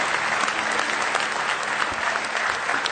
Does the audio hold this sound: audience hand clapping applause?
yes